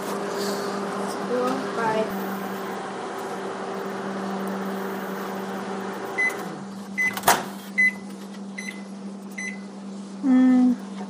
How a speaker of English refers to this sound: All right, there's my coconut oil. So I'm going to put this in the microwave, and I'm going to start at 30 seconds. There we go.